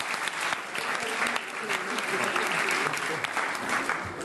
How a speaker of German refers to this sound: Ein Applaus den mutigen Männern und Frauen.